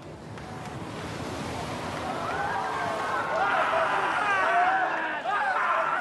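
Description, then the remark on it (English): Steady roar of crashing ocean surf at the U.S. Open of Surfing in Huntington Beach fills the whole scene, and about halfway through surfer Kanoa Iragashi starts whooping and hollering excitedly, his rising and falling cries riding over the loud wash of waves. “That whooping at the end there belongs to Kanoa Iragashi, who won last year's competition along with Courtney Conlogue in just 3-foot waves.”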